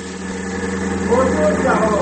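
A small British car's engine hums steadily as it drives along a blacktop road toward Skyline Boulevard, a continuous mid-pitched drone with a low rumble, holding an even loudness for about two seconds.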